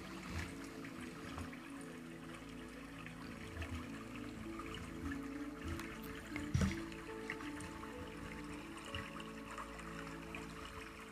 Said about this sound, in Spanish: Escucha el sonido del agua. Sumérgete en él. Y siente cómo entra en tu cuerpo.